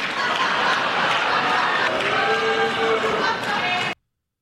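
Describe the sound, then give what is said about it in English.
A crowd of Democrats applauds steadily for about four seconds at a Donald Trump speech, after a line about continuing Ukraine funding for five more years: a dense, even roar of clapping mixed with scattered voices and cheers, then cuts off abruptly. “Because Donald Trump actually did get an applause line out of Democrats last night.”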